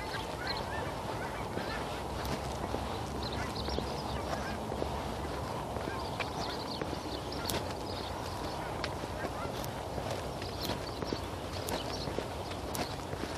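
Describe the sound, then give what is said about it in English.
A flock of geese honks continuously, dense overlapping calls over a steady outdoor rumble, with sharp clicks and clatter scattered throughout. “Geese. 'Tis the season to be geese.”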